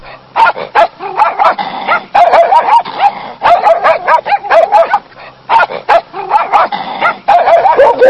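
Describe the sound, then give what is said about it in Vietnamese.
A pack of dogs barking and yipping at once as they surround a woman, baring their teeth, their loud barks overlapping in rapid flurries with only brief pauses between bursts. “Đàn chó cứ vây kín xung quanh chị Dậu như quân đèn cù.”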